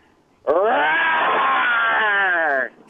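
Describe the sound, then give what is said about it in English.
A radio contest caller imitates a lion's roar over the phone: one loud, sustained voiced cry lasting about two seconds, its pitch rising slightly and then sagging as it fades, with no other talk over it. “let's hear your lion sound.”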